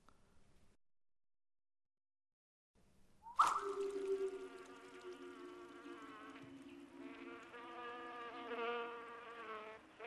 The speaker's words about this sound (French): Après ça, bien après, une mouche vint qui le piqua sur l'épaule. Et avant de savoir ce qu'il faisait, il leva sa trompe et tua cette mouche.